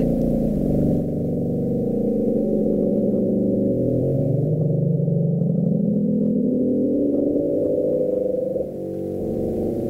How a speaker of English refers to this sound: Sounds like a deep, like, bellow, like a hum. That's exactly what it is. It's like an animal going like, like that. Yeah. Only this animal does it for 3 minutes, and it's heard for thousands of miles.